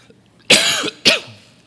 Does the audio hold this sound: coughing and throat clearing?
yes